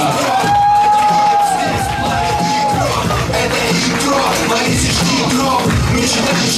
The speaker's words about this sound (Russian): Человек приехал из Сафонова, чтобы раздать вам комедии. Под ваши бурные аплодисменты